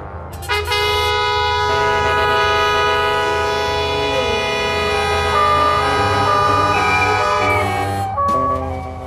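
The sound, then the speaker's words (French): A train pulls in to its terminus station with a loud, sustained metallic squeal of brakes and horn-like tones over a rumbling rail noise, ending abruptly after about eight seconds. “City, terminus, tout le monde descend.”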